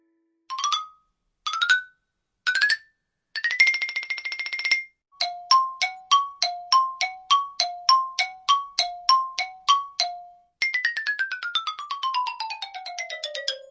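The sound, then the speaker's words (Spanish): A xylophone plays bright struck notes: a few single strikes, a quick tremolo roll, then a bouncing two-note pattern, ending in a descending glissando down the bars. Clear and fairly loud, with no voices. “El sonido sorpresa de hoy fue el de un instrumento musical llamado el xilófono.”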